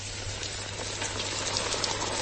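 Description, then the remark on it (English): Hake fillets crackle and sizzle steadily as they deep fry in hot oil, a dense hiss dotted with sharp little pops, with a low hum underneath and no voices. “Can you hear the crackle? Oh, that has gone too wonderful to work. We're frying up this delicious.”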